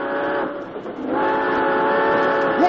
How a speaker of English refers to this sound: Hey, what are they doing? Well, they're trying to stop the train.